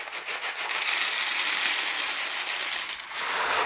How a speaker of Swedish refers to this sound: Det är makaroner. Vi häller upp lite i en liten plastburk här.